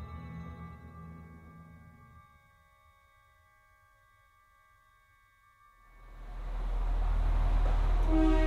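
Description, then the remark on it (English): Steady tonal hum fades to a quiet lull, then a deep rumbling roar swells up and grows loud, like a train rolling along the tracks, on a train journey north from County Carlow to County Cavan. No voices are heard. “From County Carlow, I'm on my way north to County Cavan, first by train and then by bike to meet composer Ian Wilson.”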